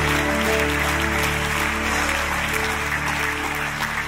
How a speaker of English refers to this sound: Come on, a simple thing, clap your hands. A deep praise, a simple thing.